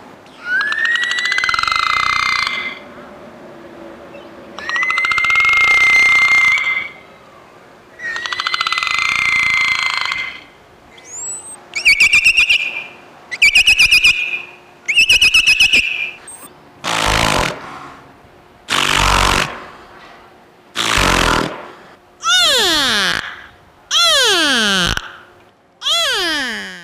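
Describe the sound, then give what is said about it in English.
Whale calls sound alone in a series of long, wailing tones, the early ones rising and falling in pitch, later giving way to shorter, harsher bursts and sweeping cries, loud throughout with brief pauses between. “All right, we'll listen to a few sounds from the whales and be back with more.”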